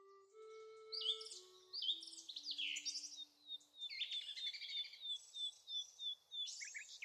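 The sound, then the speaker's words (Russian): A bird sings a lively, continuous run of high chirps and trills, fairly quiet. Soft, steady low tones step downward beneath it at the start, with no voices. “Выбор вида птицы, конечно, связан с конкретной парковой зоной.”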